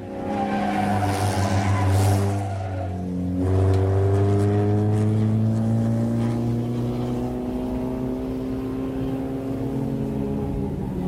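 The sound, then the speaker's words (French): A race car's engine roars on a racing circuit with strong harmonic whine, dipping in pitch as it brakes through a chicane, then climbing steadily as it accelerates away. Loud and continuous, with no voices. “Non, mais c'est pas n'importe quel moment du circuit, si vous écoutez bien. C'est la chicane.”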